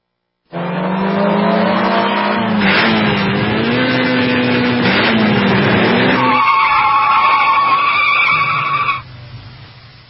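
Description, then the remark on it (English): A drag racing car revs loudly, its engine pitch climbing and wavering for several seconds, then breaks into a sustained, piercing tire skid that cuts off abruptly. “Drag racing, drag racing.”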